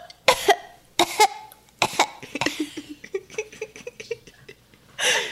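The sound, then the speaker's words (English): A person acts out a fit of coughing from the smoke of a peat fire: four harsh barks in quick succession, then raspy throat-clearing sputters and a final breathy hack. “So it's a bit smoky, which is also why they kind of keep the windows open.”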